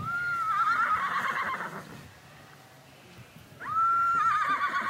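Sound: horse whinnying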